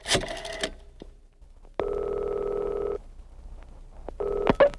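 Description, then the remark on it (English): A special yellow telephone on a distressed oak desk being dialed: a clatter as the receiver is handled, scattered dial clicks, then a loud, steady electronic buzz that stops and briefly returns. No one speaks. “Immediately, the Commissioner's attractive secretary picks up the special yellow phone on her distressed oak desk and makes contact with the white-winged warrior.”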